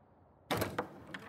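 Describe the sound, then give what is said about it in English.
A door opens: a sudden loud clunk of the latch and handle, followed by a couple of softer clicks and rattles as it swings, with no one speaking. “Get the door for me.”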